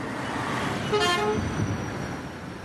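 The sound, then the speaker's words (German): Steady rumble of cars, trucks and camper vans crawling at walking pace up the steep Viale Boccetta between the ferry port and the motorway, with a short vehicle horn toot sounding near the middle over the continuous traffic noise. “Zwischen Fährhafen und Autobahn quälen sich Autos, Lastwagen und Wohnmobile im Schritttempo durch die steile Viale Boccetta.”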